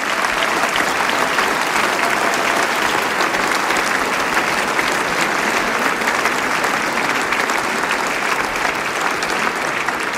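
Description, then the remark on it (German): Sustained audience applause welcoming the winners of the Salzburger Volksmusikpreis, a harmonica duo, onto the stage: a dense steady wash of many hands clapping at an even loudness for about ten seconds, with no voices standing out. “Begrüßen wir es mit einem großen Applaus.”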